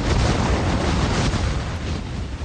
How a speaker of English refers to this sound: The sound of Ida coming ashore in New Orleans. It made landfall in Louisiana as a Category 4 storm in August on the 16th anniversary of Hurricane Katrina.